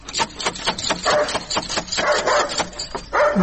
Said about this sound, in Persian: چی یک سگ خطرناکی داره ای.